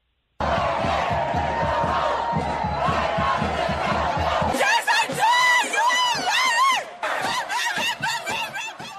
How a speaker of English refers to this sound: So these people were chanting it.